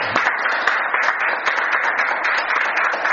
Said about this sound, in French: Que Dieu les bénisse, amen. On les applaudit.